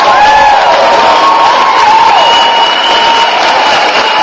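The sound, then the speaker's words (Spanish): A crowd applauds and cheers loudly and steadily, with dense clapping and scattered high-pitched whoops and shouts rising above it throughout. “Claro que se merece aplauso Sonia Elizabeth”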